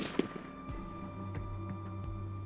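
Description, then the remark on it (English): A single gunshot cracks out sharply near the start, followed by a low, rolling rumble and scattered echoing thuds that linger. No one speaks. “On November 22nd, 1963, a single gunshot changed the course of American history when Lee Harvey Oswald assassinated President John F.”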